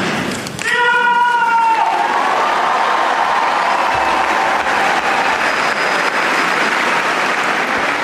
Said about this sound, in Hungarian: Gondolom a kedves hallgatók a tapsvihart és a nagy hangot hallva rájönnek, hogy valóban rengetegen, mondhatnám zsúfolásig megtöltötték a zarándokok a 6. pál termet, és így köszönik meg a mai napon is az év első katekézisének a végén Ferenc pápa